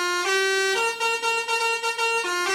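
A musical car horn blares a short, bright melody of distinct stepped notes, loud and close, with a brassy buzzing tone and no talking over it.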